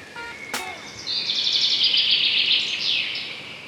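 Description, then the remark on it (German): Birdsong chirping: a sharp click, then a long, bright trilling warble that rises and holds steady for a few seconds before sliding down, with no voices. “da kann es vielleicht auch noch eine kleine Unterstützung sein, nämlich rauszugehen, tief durchzuatmen und ein bisschen Vogelgezwitscher zu hören.”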